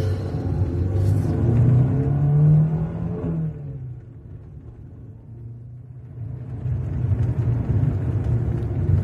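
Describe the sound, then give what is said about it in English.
A car engine revs with a rising, rumbling drone, then eases off and settles into a steady hum as the car pulls away and drives on at night, fairly loud, no voices. “Now, this is a nifty little motor you've got here. Right, let's get you home.”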